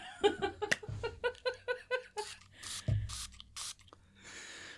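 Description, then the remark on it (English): Laughter, then several short, sharp hissing spray bursts from a throat spray in quick succession, with a longer soft hiss near the end. “do you need your throat spray?”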